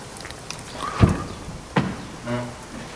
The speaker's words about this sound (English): And where an oven had been, or a stove had been decades before, the ceiling just had a hole in it, and there was a plastic bucket underneath the hole to catch the drops of rain.